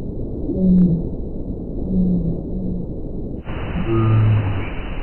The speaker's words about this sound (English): And this is from a whale calling near the ocean surface.